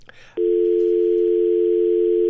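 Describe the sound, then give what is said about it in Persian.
A brief burst of line noise, then a steady, loud, unbroken telephone dial tone after a dropped call to a radio programme guest holds for about two seconds with no voices. “امیدوارستم که تلفن آقای لیوال قطع نشده باشن.”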